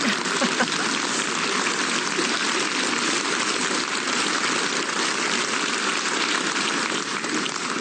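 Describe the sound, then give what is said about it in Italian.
Sustained applause from a large audience in an old recorded RTSI broadcast, a dense, steady wash of clapping that holds at an even loudness for the whole stretch with no voices standing out. “e quello che rimase, che è sopravvissuto, è proprio questo momento. Sono applausi questi.”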